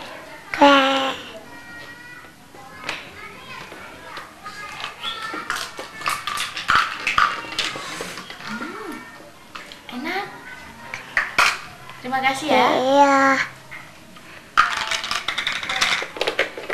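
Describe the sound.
Spoons and dishes clatter in a quick, uneven series of sharp metallic clinks and knocks, with children's voices chattering on and off about buying and serving bakso (meatball soup) over the clattering.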